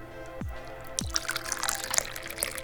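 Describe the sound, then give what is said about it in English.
Dahong Pao tea being poured into a cup: two quick plopping drips, then a steady, splashy trickle of liquid filling the cup, with no voices. “Oh, look at that delicious Dahong Pao. Oh, being poured into the cup.”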